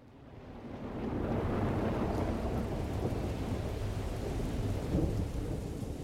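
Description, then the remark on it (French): A heavy thunderstorm roars steadily, with dense rain and a deep, rolling rumble of thunder that swells and stays loud throughout, peaking briefly near the end. No voices. “Nous affrontons de grosses tempêtes, mais nous nous dirigeons vers un pays, vers le soleil, vers Cuba.”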